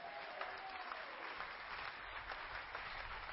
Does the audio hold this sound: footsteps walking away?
no